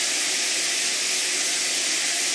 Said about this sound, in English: You can hear me talking now. You can hear the water crashing down on top of me.